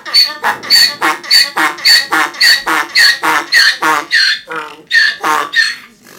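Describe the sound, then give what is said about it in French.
A donkey brays in a long, loud run of harsh, rhythmic honking pulses, each rasping call following quickly on the last, with no other sounds around it. “L'âne, c'est un animal qui brille, vous en avez peut-être déjà entendu, je vais vous en faire écouter là.”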